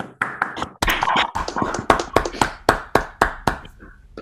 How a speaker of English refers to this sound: So let's all unmute to give him a round of applause for his very interesting talk.